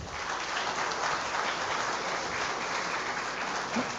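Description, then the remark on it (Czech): An audience applauds two speakers in a dense, steady wash of clapping that holds an even level for about four seconds, with no voices over it. “Tak, děkuju moc, potlesk pro oba řečníky.”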